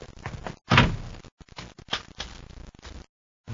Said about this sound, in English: Shut the door, Ruben.